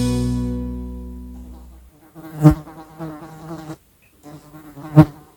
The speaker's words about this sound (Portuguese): No zumbido de uma abelha há muito mais do que um som. Há um código, um aviso, uma dança no ar.